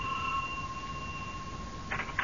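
A doorbell rings at a neighbor's house with a steady, sustained electric tone for nearly two seconds, followed by a couple of brief scuffling bursts at the end. No one speaks.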